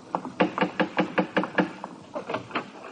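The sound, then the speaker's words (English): A United States Army major raps on a wooden door in a quick, steady series of about nine knocks, then pauses briefly before a shorter burst of four more, firm. “Ida, go to the door, won't you, dear?”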